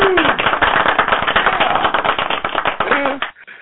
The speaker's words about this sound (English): So with that said, we're going to do a little clapping first.